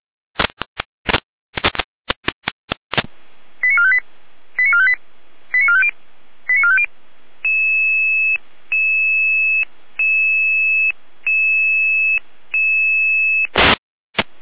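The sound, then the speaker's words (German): Fire brigade radio alerting tones: a few crackling radio bursts, then a quick series of short electronic beeps, followed by longer steady tones repeating with brief gaps, ending in another burst of static. “Hier eine Alarmierung.”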